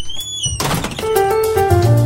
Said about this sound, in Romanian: Se deschide ușa.